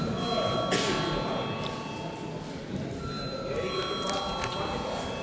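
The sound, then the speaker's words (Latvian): A parliament chamber bell rings steadily without a break for several seconds, a bright metallic electric tone held at an even level over a low murmur of voices, rung at the chair's request before deputies vote on a committee proposal. “Paldies, lūdzu zvanu.”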